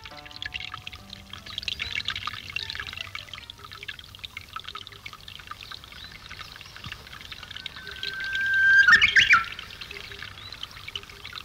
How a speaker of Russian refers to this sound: Радио передает пение японского соловья.